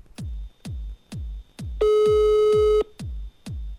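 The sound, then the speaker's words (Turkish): A phone call rings out unanswered: steady, evenly spaced low electronic pulses repeat throughout, with a loud sustained buzzy tone cutting in for about a second midway. No one speaks. “Hemen birini arayayım. Bakayım açacak mı, çok merak ettim.”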